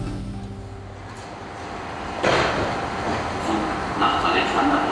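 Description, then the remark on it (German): Busy ambience at the Elsterwerdaer Platz U-Bahn (subway) station on a grey Monday morning in December, with a train rumbling, low mechanical drone and hiss swelling midway, and faint murmuring voices. “Ein grauer Montagvormittag im Dezember. U-Bahnhof Elsterwerdaer Platz.”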